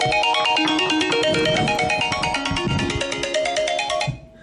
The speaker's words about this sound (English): It's amazing how the phone has a tendency to ring just when you don't want it to.